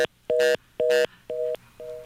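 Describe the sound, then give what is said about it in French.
A telephone line tone after a dropped call: short electronic beeps repeating at an even, quick on-off rhythm, clear, with no one talking. “Le téléphone s'est arrêté pour je ne sais pas trop quelle raison.”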